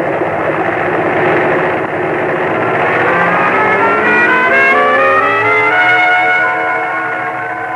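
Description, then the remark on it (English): A small plane, called a little grasshopper, roars steadily, then revs up to full throttle before releasing its brakes to take off across a clearing, its droning pitch climbing smoothly over several seconds into a loud, sustained whine. “Your best bet is to rev her up, full throttle, and then release the brakes.”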